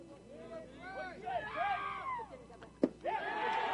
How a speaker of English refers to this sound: Whole North United's team up screaming and cheering on Trey Tucker for just getting a base on balls.